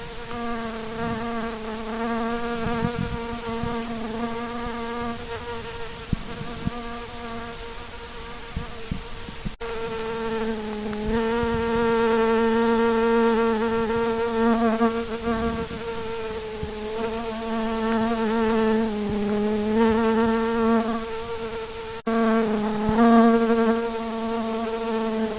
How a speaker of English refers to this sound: About these bees in Colorado, in here today in Calwood. Bees.